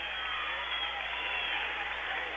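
A big crowd at a basketball game applauds steadily as player Griffith heads out of the game, a dense, continuous wash of clapping and cheering that holds at the same level for the whole moment, with no clear voices standing out.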